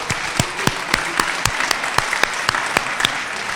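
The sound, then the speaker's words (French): A crowd applauds steadily in thanks, a dense wash of clapping with sharper individual claps popping out at a fairly even rhythm, moderately loud and without voices over it. “Et puis je voudrais vous remercier tous parce que je pense que nous méritons tous un grand applaudissement et beaucoup de remerciements.”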